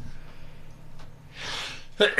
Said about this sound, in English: Sneeze on the truth. Sneeze quietly, on it. He's allergic to the DA, sorry.